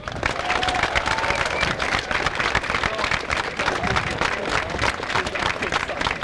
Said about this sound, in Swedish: Därför får vi tacka polisen med en applåd.